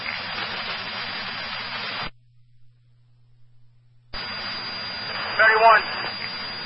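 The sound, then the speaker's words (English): A fire engine idles with a steady low rumble under a wash of hiss. It cuts to a faint hum for about two seconds, then returns, with a brief higher tone near the end. “engine sit behind you. That's Hollywood's engine.”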